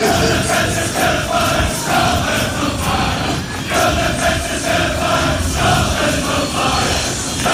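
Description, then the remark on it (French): A large crowd of Scotland football fans, the Tartan Army, chants a repeated refrain in unison, loud and sustained, with rhythmic swells of massed voices and a steady roar underneath throughout. “Écoutez juste, on connaît ce refrain.”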